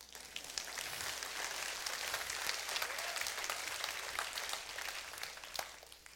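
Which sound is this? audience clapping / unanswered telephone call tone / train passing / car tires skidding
audience clapping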